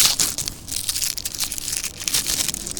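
A string of Black Cat firecrackers being unwrapped: steady, fairly loud crinkling and crackling of wrapping, with bursts of sharp rustles over about three seconds and no voices.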